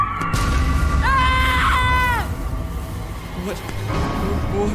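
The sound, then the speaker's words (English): A horned legendary monster lets out a loud, shrill, high-pitched screech as it attacks; the screech rises sharply, holds for about a second, then drops away over a constant deep rumble, followed by a few faint, brief squeals. “And when he attacks, he lets out a high-pitched screech, so loud and so shrill, it makes your ears bleed.”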